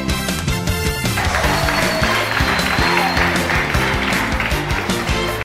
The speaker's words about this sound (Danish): Så skud ud til Mike Tyson herfra i hvert fald. Der skal lige lyde en ordentlig klapsalve.